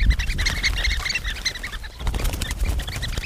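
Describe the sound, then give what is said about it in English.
A flock of sanderlings calls in a frantic, overlapping clamor of sharp high peeps, dense and continuous, with rustling and scuffling underneath, loud throughout. “And then there is the panicked frenzy of the Sanderlings.”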